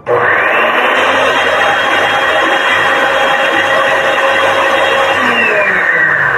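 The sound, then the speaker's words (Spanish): A blender blends lemon juice, cumin, garlic cloves, salt and pepper, running steadily for several seconds, a loud continuous motor whir with a constant high-pitched drone and chunky churning rumble underneath, starting abruptly and holding at full strength. “Entonces vamos a colocarlos aquí en la licuadora. Vamos a darle un poquito para que se integren todos los elementos.”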